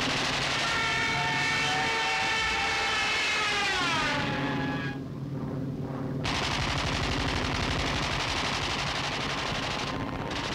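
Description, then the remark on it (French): Roaring engines of fighter planes and B-26 bombers with a rising and falling whine sweep overhead while rapid bursts of machine-gun fire rattle continuously, loud, with no one speaking; the aircraft protect parachute drops and attack Viet Minh forces on hills in thick jungle. “Les chasseurs Birkat et les bombardiers B-26 protègent les parachutages et attaquent les éléments Viet Minh réfugiés sur les collines proches, dans une jungle épaisse.”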